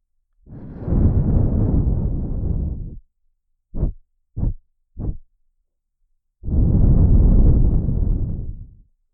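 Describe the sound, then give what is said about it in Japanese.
Two long, rumbling gusts of breath blown straight into the microphone, with three quick short puffs between them; the blasts are loud and windy, and no one speaks. “息吹きかけてるだけなんだけど。”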